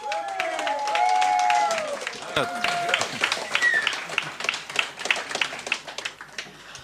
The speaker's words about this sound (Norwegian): Gi en god applaus.